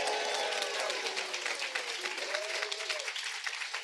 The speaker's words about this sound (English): Please give her a big applause.